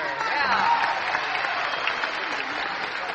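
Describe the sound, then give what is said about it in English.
A Grand Ole Opry audience applauds steadily to welcome a guest onto the show, a dense wash of clapping hands that holds at an even, loud level throughout, with a faint murmur of voices mixed into the noise. “So let's get him out here with a big round of Grand Ole Opry applause.”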